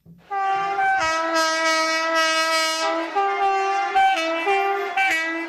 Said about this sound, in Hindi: 7 नवंबर 1946 के दिन एक ट्रेन चौमुहानी रेलवे स्टेशन पर आकर रुकी।